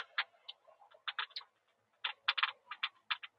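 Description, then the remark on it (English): A quick, uneven ticking heard while driving: sharp, bright clicks fall in bursts and short clusters with brief gaps between them. The clicks sound faint and thin, with no voices. “It does sound like something's ticking, though.”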